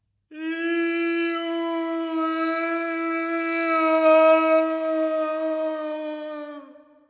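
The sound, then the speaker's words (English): A single long, sustained howl rings out steadily for about seven seconds, loud, holding a pure drawn-out tone before fading at the end, with no talking. “It was some time shortly after midnight that every beast on the ledge was dragged into wakefulness by a long, echoing howl which boomed about cliff and lake like some sepulchral knell.”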